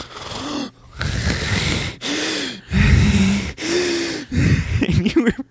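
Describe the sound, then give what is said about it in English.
A person loudly imitates heavy, hard breathing: five or six forceful, raspy gasping breaths in a steady rhythm, with short pauses between them and no talking. “You were breathing so hard.”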